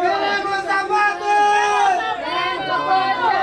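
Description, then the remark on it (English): A crowd of migrants from the caravan shouts "We want shoes" outside El Berital's storage facility in Tijuana, loud and steady for the full few seconds, with raised, strained pitches overlapping in a dense, chant-like clamor. “Those are shouts of "We want shoes" outside El Berital's storage facility.”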